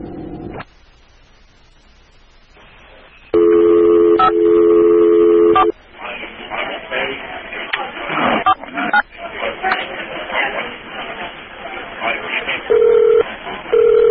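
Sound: telephone ringing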